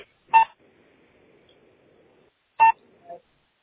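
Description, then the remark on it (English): Two short, loud electronic tones from a speakerphone as a message comes in, spaced about two seconds apart, with a faint low hum between them and a soft brief blip at the end. “You hear that tweaking? That beeping noise?”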